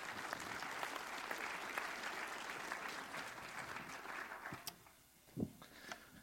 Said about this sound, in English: Let's give Mark a round of applause.